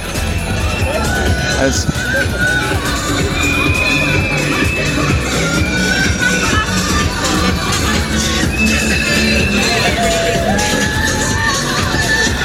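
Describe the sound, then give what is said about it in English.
A large crowd at a parade cheers Conchita as she waves from a hovercraft float, shouting continuously, with high whoops and children's squeals rising over a dense, steady roar of voices, loud throughout. “So she's up there waving, and the crowd seem to really love her.”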